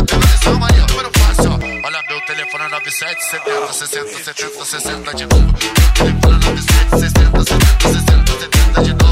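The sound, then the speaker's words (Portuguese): A phone ringtone chirps a short electronic melody for a couple of seconds, played over a loud, pounding dance beat that keeps thumping steadily before and after it. “Alguém ligou pra mim.”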